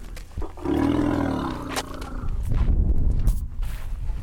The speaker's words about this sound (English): On a bright, warm day in Kenya, young elephants romp in a dusty clearing.